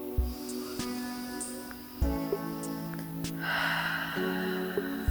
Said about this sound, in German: Setzt euch bequem hin. Atme tief ein und aus.